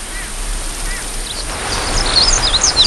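Songbirds migrating between Europe and Africa chirp as they pass through the desert, in quick, high-pitched calls, a few scattered at first and then a busy flurry toward the end, set against a steady rushing hiss of background noise.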